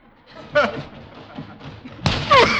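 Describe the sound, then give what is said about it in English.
A man takes a running start and slams heavily into a padded tackling sack with a dull thud, then a second, louder thud follows about a second and a half later, with voices and breathy exclamations around them. “You knocked the wind out of yourself.”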